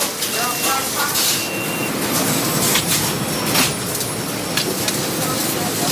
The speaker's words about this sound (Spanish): Este sonido de platos, de ollas, de conversaciones a medio terminar podría ser de cualquier gran restaurante, como por ejemplo el de una estrella Michelin, pero es el de la cocina de la Fundación José María de Llanos, que ha preparado una comida